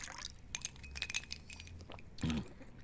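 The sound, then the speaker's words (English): One level cup of whiskey is poured from a bottle into a glass, a soft splashing trickle with a few light glassy clinks and a brief louder gurgle near the end; no one speaks. “Pour one level cup and drink.”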